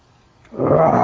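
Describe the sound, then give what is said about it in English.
After a quiet half second, a voice breaks into a loud, rasping, drawn-out roar in imitation of a lion, held steady until the end, forceful. “Roar! Remember the lion says roar.”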